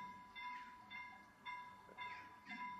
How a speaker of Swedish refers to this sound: Det är järnvägsövergången i Vingåker som går då mellan Göteborg och Stockholm. Många tåg om dagen. Just det ljudet triggar mig. Alltså det gör ont.